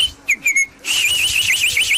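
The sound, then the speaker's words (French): A person whistles by mouth an imitation of a nightingale: a few short, clear chirps, then a loud, continuous warbling trill that rises and dips rapidly, with no talking. “T'as le rossignol, le psychopathe.”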